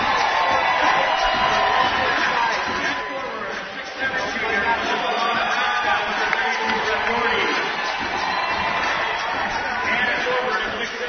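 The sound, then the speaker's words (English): A loud, sustained roar of a basketball crowd at the Sanford Pentagon cheering on their Bearcats as the Lions are introduced and the lights dim for the starting lineups, with whoops and shouts rising over a dense wash of chatter, steady throughout with no pauses. “and they are ready to cheer on their Bearcats.”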